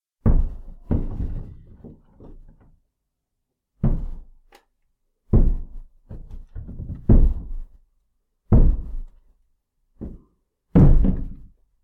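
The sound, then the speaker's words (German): Heavy footsteps thud across a hard floor in uneven clusters, with brief pauses between runs of steps and no voices. “Take three. Schritte.”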